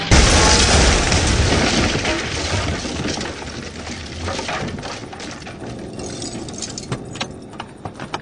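A loud, heavy crash of a Winnebago motorhome smashing through a door, a panel with a doodle on it, amid roaring engine rumble, fading into scattered rattles and clinking debris over several seconds.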